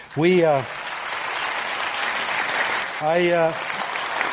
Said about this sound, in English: Don't clap right away because I've got the bottom line is not what you'd think because of Sarah Palin.